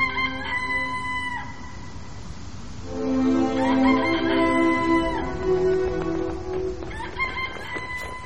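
A rooster crows loudly, its drawn-out call rising and falling, followed by further crowing and clucking from several fowl over a steady background din.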